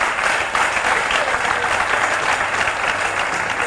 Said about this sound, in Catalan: L'ha clavat, eh? L'ha clavat, aplaudiu-la.